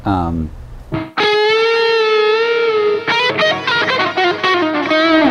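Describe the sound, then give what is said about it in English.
A loud, distorted electric guitar lead tone, run from a laptop through Ableton, holds a long, slightly wavering sustained note, then moves into a quicker phrase of several notes, with no talking over it. “Like, there's this lead tone, this one right here, that I really like.”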